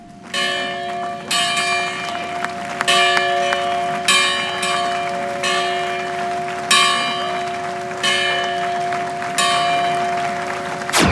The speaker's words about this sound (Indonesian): Untuk membuka secara resmi museum itu, Presiden Obama dan Ibu Negara Michelle membunyikan bel sebuah gereja bersejarah.